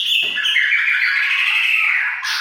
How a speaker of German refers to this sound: Rund 170 europäische Zoos nehmen an ihr teil, informieren und sammeln Geld, etwa für Zuchtzentren vor Ort wie die Pregen Ark, damit in Asiens Wäldern bald wieder mehr Vögel zwitschern.